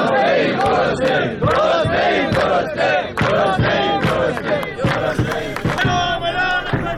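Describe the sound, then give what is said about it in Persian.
A large crowd of Haft Tappeh sugar workers chants slogans in unison, loud and continuous, with a strong repeating rhythmic pulse of shouted syllables and voices overlapping throughout, including 'We are not agents of sedition, nor coin traders' and 'we are hungry'. “خب یه خورده توی شعارها از دفعه قبل فکر می‌کنم یه ذره متفاوت شده بودیم با بله، مثلا همین شعاری که الان نه عاملان فتنه ایم نه تاجران سکه ایم، با توجه به اعدام سلطان سکه و حالا گرسنه ایم گرسنه ایم”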